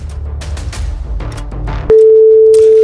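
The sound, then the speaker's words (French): After a burst of noisy, crowded background sound, a loud, steady electronic ringback tone begins partway through and holds unbroken as an outgoing phone call from RCI radio to a contest listener rings on the line. “Et voici la première sonnerie.”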